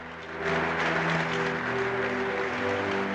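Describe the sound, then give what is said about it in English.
An audience claps steadily in response to a speaker's remark, a dense wash of many hands applauding that swells in after a brief moment and holds at a strong, even level, with a faint low hum underneath. “He glances around as they applaud.”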